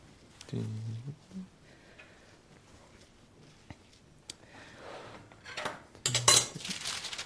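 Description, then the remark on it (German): Dishes and cutlery clink and clatter as they are handled while cooking, with a few sharp knocks early on and a louder burst of rattling near the end, while someone talks in the background. “Ich brauche das Geschirr drunter, bitte.”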